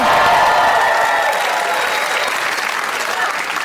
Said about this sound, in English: This shirt that I'm wearing, a gentleman gave it to me yesterday, and that's him clapping right now.